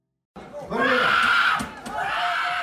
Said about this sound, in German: Mit lauten Schreien und rotem Kopf stemmt sich eine usbekische Athletin gegen ihre drohende Niederlage. Das Problem, ihre Kontrahentin aus Kasachstan ist stärker.